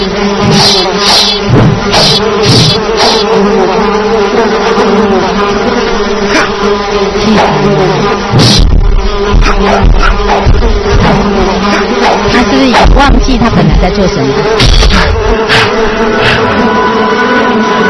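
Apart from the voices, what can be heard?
fly buzzing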